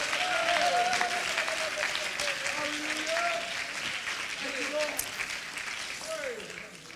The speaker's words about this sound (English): Oh, would you clap your hands and thank the Lord?